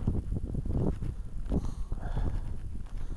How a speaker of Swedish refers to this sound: Det blåser ganska kraftigt här.